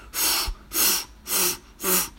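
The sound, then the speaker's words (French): A horse blowing hard into the inner tube of an old car's flat tyre to inflate it: four loud, breathy blasts of air in a steady rhythm, each a rushing hiss lasting under half a second, with short pauses between and no talking. “Il se mit à souffler très fort.”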